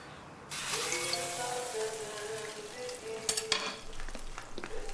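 Food sizzles and crackles steadily in a hot pan as a woman cooks in a kitchen, a dense hiss with faint tonal ringing and a few sharper metallic clinks from a utensil stirring, with no talking.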